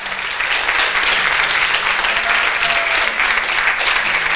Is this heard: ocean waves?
no